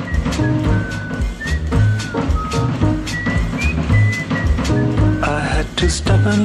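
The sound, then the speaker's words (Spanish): A whistled jingle introducing a cooking segment on RTVE radio: a whistled melody glides in thin, high notes over a busy, full instrumental backing with steady beats and bass, playing loudly throughout with no voices. “y nos vamos a meter, como siempre, con este silbido en el maravilloso mundo de la cocina de la mano de la divulgadora gastronómica y cocinera Miriam García.”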